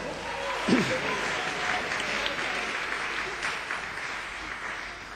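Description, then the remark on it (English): An audience claps steadily for several seconds, a dense, even patter of many hands at moderate volume, with a brief voice at the start. “Give him a clap, will you?”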